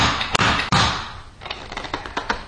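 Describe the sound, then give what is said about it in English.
Someone bangs a plastic stacking ring toy to loosen its stuck ball and rings: two sharp, loud knocks, then a run of lighter, uneven taps and clatters. “We could bang it.”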